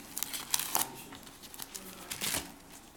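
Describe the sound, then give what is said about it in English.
Crisp rustling and crinkling of paper sheets being shuffled and handled as someone searches for a sheet before a Bible reading, with irregular bursts of crackle over about three seconds and no voices. “Where's that bit of paper?”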